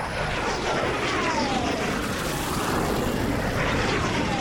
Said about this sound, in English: Whoa, the red arrows. $25,000 for 2 seconds of noise and a bit of pink smoke.